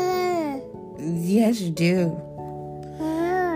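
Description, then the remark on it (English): A baby girl babbles in a run of high, sing-song vocal sounds, with pitch sliding up and down and a couple of brief excited squeals in the middle, loud and continuous throughout. “At nighttime, she starts to dance and scream.”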